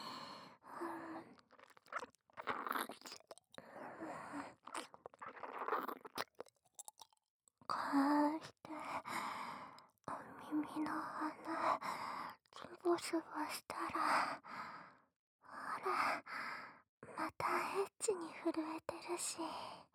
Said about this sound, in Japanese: 娘みたいに思ってた子にお耳舐められて、はぁはぁしてる。